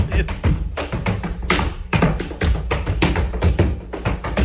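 A woman held upside down by a man walking around a living room stomps her feet again and again against the ceiling, a loud, rapid series of heavy thuds and taps in an uneven rhythm that continues throughout.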